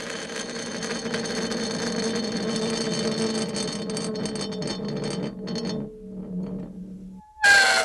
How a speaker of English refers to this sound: Here's a big forged steel wrench put down on dry ice.